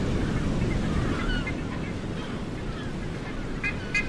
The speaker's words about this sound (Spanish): Pero se agradece escuchar las olas de fondo, aunque sea, ese sonido que rodea a los faros, la resistencia de sus enormes bombillas, las gaviotas, el mar.